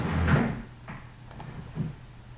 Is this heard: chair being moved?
yes